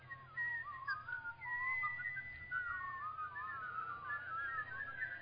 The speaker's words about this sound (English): There was once, in a land far, far away, a town of whistlers. Every person, indeed every dog and cat, mole and moose, llama and lammergeier, teamster and tea kettle, everyone and nearly everything whistled.